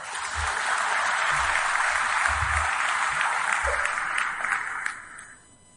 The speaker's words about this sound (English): Can I ask you to give yourself a round of applause?